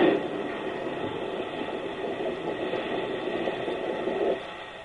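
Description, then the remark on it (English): A train runs steadily along the rails, a dense, continuous rumble that stays fairly loud and even, swelling slightly near the end before easing off. No one speaks. “Now to stop the train.”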